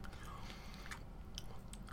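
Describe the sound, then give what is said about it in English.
Chewing of crunchy chips topped with black beans, steak and corn salsa, with several sharp crackling crunches scattered over steady, wet mouth sounds. Quiet and intimate, no talking. “Yes, anyways, I'm recording now, so at the request of our contestants, they want the audience to hear me eating food, so that's what we're going to hear for a little bit.”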